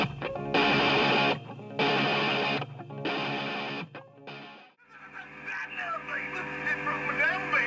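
Loud distorted electric guitar blasts in four rhythmic bursts, then a sustained stretch of squealing, wavering feedback tones ringing over the band, harsh and close.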